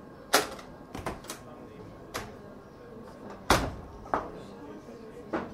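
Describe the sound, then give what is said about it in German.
Sharp knocks on the gate of the Etz Hayim Synagogue in Kondylaki Lane, old town of Hania, Crete, on a Friday evening: about seven hard raps spaced irregularly, some single and some in quick pairs, clear over a faint background hum. “Zu dieser Stunde klopfen nur ganz bestimmte Gäste am Tor der Etz Hayim-Synagoge.”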